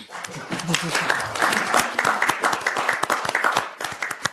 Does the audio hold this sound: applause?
yes